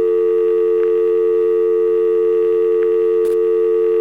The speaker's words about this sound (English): I've got a dial tone here, okay? You hear my dial tone? Yeah. What I'm going to do is allow you to feed those tones into my dial tone, and maybe it'll dial something.